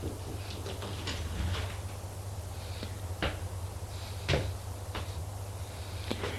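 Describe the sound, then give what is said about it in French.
A door being opened after a knock, with a handful of sharp latch clicks and soft clunks spread over several seconds against a steady low hum, fairly quiet, with no voices. “se lève pour aller ouvrir.”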